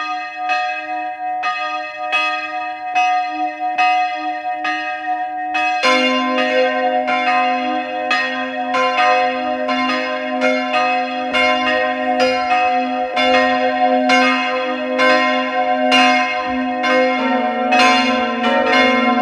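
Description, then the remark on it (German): The bells of the parish church of St. Georgen am Weinberg in Carinthia ring at noon in a steady, resonant peal; one bell tolls alone before a deeper bell joins about a third of the way in, their overlapping strikes rolling on continuously. “Sie hören die Glocken der Pfarrkirche St. Georgen am Weinberg in Kärnten.”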